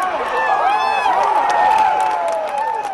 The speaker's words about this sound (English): The story of yesterday's riveting final round can be told in cheers and roars and, yes, groans, those cherished noises that had always defined Masters Sunday.